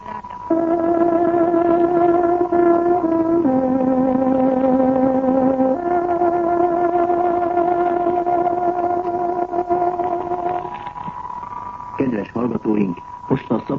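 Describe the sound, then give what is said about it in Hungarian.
A tárogató plays the 18:00 hourly time signal on Radio Free Europe's Hungarian shortwave broadcast: a few long, sustained reedy notes that step slowly between pitches for about ten seconds, with a radio-like hiss underneath and a brief burst of other sound after. “Kedves hallgatóink, pontos időjelzést adunk. Tárogatónk 18 órát jelez.”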